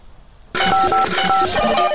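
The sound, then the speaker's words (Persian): A Radio Farda telephone answering machine rings, starting abruptly after a moment of near silence, with bright electronic tones pulsing in a steady repeating pattern, loud. “تلفن پیامگیر رادیو فردا است. در اینجا پیام‌های چند شنونده رو می‌تونید بشنوین.”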